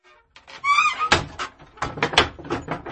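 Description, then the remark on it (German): A house front door swings shut, a short hinge squeal followed by a solid thud and several rattling knocks of the latch settling, with no voices. “Kommen Sie rein und schließen Sie die Tür!«”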